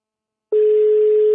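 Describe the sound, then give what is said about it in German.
A phone's ringing tone on an outgoing call: after a moment of silence, a single steady, clear electronic tone sounds and holds loudly to the end, with no voices. “Es klingelt.”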